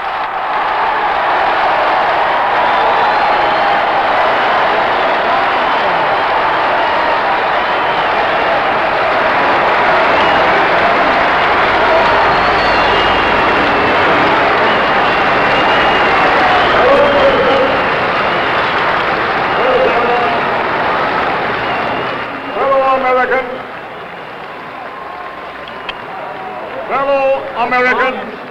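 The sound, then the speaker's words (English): A huge crowd at the March on Washington applauds and cheers after Martin Luther King Jr.'s speech, a dense, sustained roar that holds steady for over twenty seconds, then thins out as scattered voices and a man talking come through near the end. “Tremendous applause for the Reverend Dr. Martin Luther King, Jr., President of the Southern Christian Leadership Conference.”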